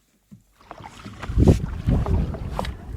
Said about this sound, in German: Und dann wird dieses Donnergrollen, das wird immer lauter und immer lauter. Man denkt, ist das die Welle? Und dann denkt man sich, okay. Das ist die Welle.